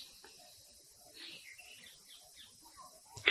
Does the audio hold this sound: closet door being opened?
no